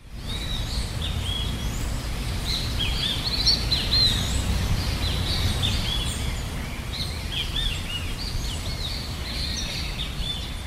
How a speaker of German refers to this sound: Urwald satt und Vögel pur, so klingt Suriname, das kleinste und wohl außergewöhnlichste Land Südamerikas.